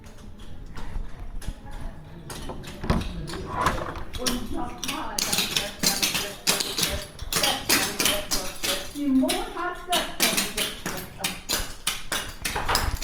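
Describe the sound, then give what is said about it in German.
Rapid, dense tapping of clogging dance shoes on a hard floor, the sharp clicking steps running continuously in a lively rhythm, with faint voices mixed in behind. “Und man hört auch schon so ein bisschen, dass es dort schon ordentlich zur Sache geht.”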